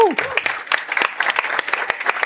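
Audience applause with many overlapping claps in a steady crackling wash, fairly close and moderately loud, briefly joined at the start by a falling vocal whoop.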